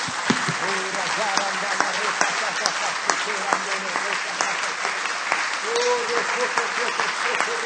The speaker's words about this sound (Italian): Penso che questo applauso che abbiamo fatto alla fine venga proprio dal Signore. Facciamolo ancora, applaudiamo al nostro Signore.